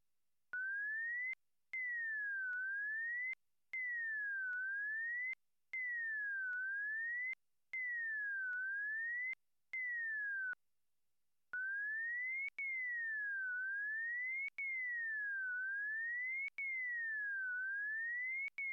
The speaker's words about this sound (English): You will hear two versions. The second has a shorter portion deleted than the first does, so that the remaining parts of the glides reach a higher frequency than in the first example. The demonstration is presented twice.